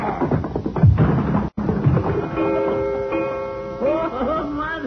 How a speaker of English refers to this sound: You hit that coyote so hard, he bang up against the wall and he knocked the clock down.